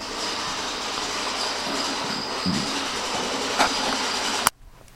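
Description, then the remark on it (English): A small robot vacuum cleaner runs with a steady, whirring mechanical drone and high motor whine, broken by a few sharp rattling clicks as it tries to eat a bottle cap, then a loud clack as the noise cuts off abruptly near the end, leaving quiet. “My wife has got one of these little robots that vacuum, and apparently it tried to eat a bottle cap.”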